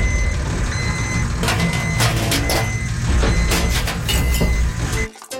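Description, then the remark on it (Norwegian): A garbage truck backs up, its reversing beeper repeating steadily over a loud diesel engine rumble and mechanical clatter, cutting off abruptly at the end. “Og her ser jeg, hun kommer ryggen altså med stødig kurs. Det søppeljenta vår,”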